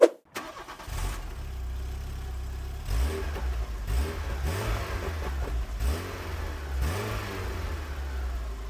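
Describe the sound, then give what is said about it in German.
A VW Golf Country engine cranks and catches, then settles into a steady idle broken by four or five short blips of the throttle, each rev rising and falling back. Fairly loud, with no voices. “Ja, und da hört man direkt, Motor ist schon mal nicht so speziell. Der klingt recht Standard.”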